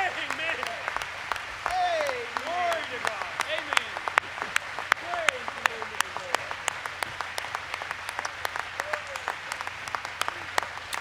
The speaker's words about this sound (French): L'audience s'est élevée pour applaudir.